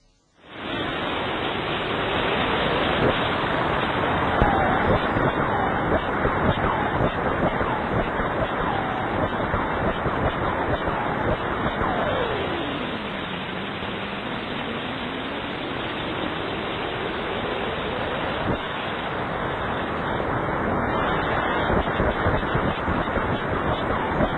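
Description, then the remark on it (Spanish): A sonified X-ray signal from the black hole known as Old Faithful, shifted to audible frequencies: two emission cycles of about half an hour each, sped up so an hour passes in a few seconds. A dense, steady bubbling rush of noise lasts throughout, with a faint tone that glides down and back up midway. No voices. “han cogido la emisión de rayos X del agujero negro Old Faithful y la han traducido a sonidos para nosotros”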